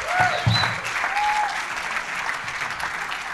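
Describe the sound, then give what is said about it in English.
A crowd at a campus event applauds steadily to welcome comedian Ben Price. It is a dense, continuous wash of clapping that stays fairly loud throughout, with a few brief whoops or whistles rising above it early on. “But why don't we give Ben Price a big welcome and welcome, mate.”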